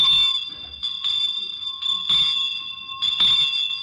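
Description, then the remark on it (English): A Christmas street handbell, the kind often heard on the streets around Christmas time, rings in steady, rhythmic shakes roughly once a second, bright, its metallic tone sustaining between strokes with no voices over it. “And now this next bell is one you often hear on the streets around Christmas time.”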